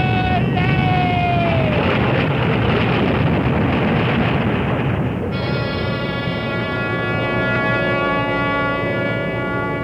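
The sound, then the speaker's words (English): A huge ocean wave crashes over a ship in a loud, unbroken roar of rushing water. A sliding tone fades early on, and a steady horn-like drone rises over the churn halfway through. “And when the big wave crashed, it was as if the sky had fallen.”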